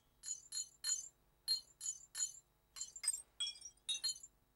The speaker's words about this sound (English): Oogie Boogie, the figure in the basement, rolls a couple of dice, getting a double one.